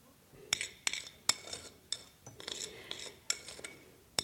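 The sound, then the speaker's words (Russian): A young woman lays freshly made blini pancakes out on a plate: a series of sharp clinks and scrapes of utensils against dishware, irregular and fairly crisp, with no talking. “Она раскладывает на тарелке только что испеченные блины.”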